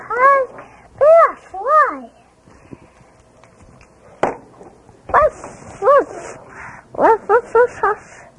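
A puppy barks in short, high-pitched yaps, arriving in quick clusters of two or three with brief pauses between, fairly loud.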